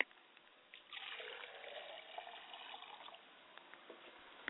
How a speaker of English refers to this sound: I pour a glass of water for my mother's spirit, and I say, Ashe.